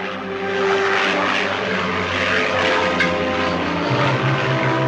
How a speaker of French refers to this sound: Aussitôt après l'annonce du désastre, l'avion du capitaine Guérin prenait l'air pour tenter de retrouver l'appareil et survolait la chaîne frontalière franco-italienne, zone présumée de l'accident.